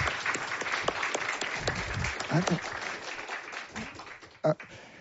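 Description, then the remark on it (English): An audience applauds a panel steadily for several seconds after a discussion on open access publishing, a dense wash of many hands clapping with a few louder claps near the end, and a bit of voice mixed in underneath. “Yeah, give them an applause.”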